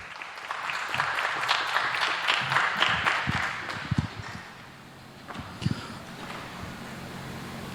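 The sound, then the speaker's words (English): An audience claps steadily for several seconds to welcome a speaker to a talk, a dense wash of many hands that thins out toward the end, with a few louder individual claps standing out near the close. “So I can't wait to see what he's going to tell and give a big applause.”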